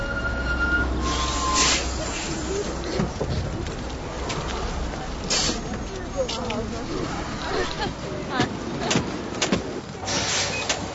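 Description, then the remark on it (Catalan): A city bus rumbles up with a steady low engine drone, a few sharp hisses and clunks breaking through as it stops for boarding, while people talk. “Vine, ara ve l'autobús.”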